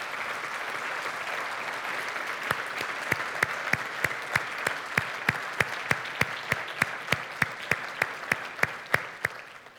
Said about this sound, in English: Can we please give this gentleman a round of applause?